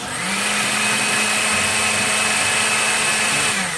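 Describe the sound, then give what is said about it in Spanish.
A blender runs steadily at high speed, its motor whirring with a loud, constant buzz and a faint high whine throughout, with no talking, as it blends ingredients with yogurt, honey and vanilla extract into a smooth, creamy mixture. “Una vez pasado este tiempo, las colocamos en la licuadora junto con el yogurt, la miel y la esencia de vainilla y procesamos hasta obtener una mezcla suave y cremosa.”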